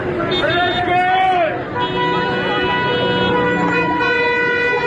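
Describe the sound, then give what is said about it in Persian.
Many car horns honk together in a sustained, overlapping chorus, loud and continuous, with some rising and falling tones, amid busy street noise and background voices, as people in the Narmak area of Tehran protest against the morality police. “اعتراضشون مردم با بوق دارن نشون میدن.”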